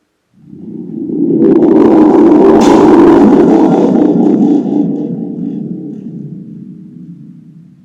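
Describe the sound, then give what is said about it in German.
A deep, loud roll of thunder rumbles in, swells with a sharp crackling burst near its peak, then slowly fades away over several seconds. No voices are heard. “Und dort unten hat es auf blitzen und donnern, als würde der Himmel auf die Erde kiehen.”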